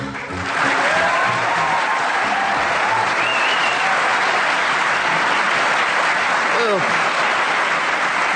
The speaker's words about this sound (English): Too much. All that spontaneous applause. Hello and welcome again to the News Quiz. We're kicking off the new series at the Pleasant Theatre on the Edinburgh Fringe.